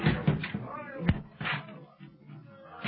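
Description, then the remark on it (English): Heavy thuds and cracking blows as a seawall door is battered and broken down by a rescue party, several irregular impacts amid a murky, rumbling background. “Young seawall door. They're breaking it down.”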